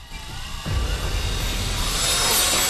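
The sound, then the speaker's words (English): A surgical drill starts up after a short pause and bores the first hole into a patient's skull, a dense whirring grind with a high whine on top that holds loud and builds slightly toward the end. No one speaks. “She picks up the drill. Lynn prepares herself, glances at the monitor which shows 80 over 30, then drills the first hole.”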